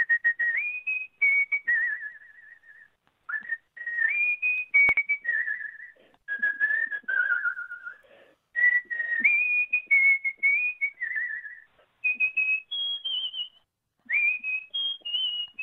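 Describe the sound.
A person whistles a pop song melody solo, clear, in smooth phrases broken by short breaths, the tune rising and falling in a bright, steady tone.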